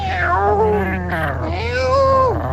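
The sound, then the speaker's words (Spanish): Two long, drawn-out meows, each rising and then falling in pitch, follow one another closely and stand out clearly over a steady low hum. “Dice Jandro, en el Día Mundial de los Gatos, un recuerdo para mis gatitos, para Mai, mi Falconetti, mi Ramona.”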